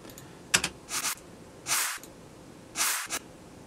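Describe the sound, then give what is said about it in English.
A few soft snare hits play alone, each trailing off into a bright, hissy high-end tail like a short burst of spray, spaced at an uneven rhythm; the tail is a clap or snare sample in the Battery sampler with its attack increased. “And then added to that, I've got a little tail on the snare as well. Just on its own, it sounds like that.”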